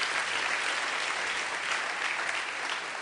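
An audience at a church service claps together for visitors in steady, sustained applause, a dense wash of many hands beating at an even loudness throughout with no voices breaking through.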